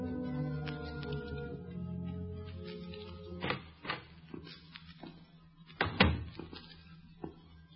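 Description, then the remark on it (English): A hospital room door is opened at night, with several wooden clunks and rattles and one heavier thump near the end, over a steady low hum. No one speaks. “Open the door. Go in.”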